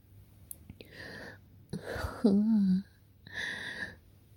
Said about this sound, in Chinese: 你喘气喘得好重啊！是我不小心坐到哪里了？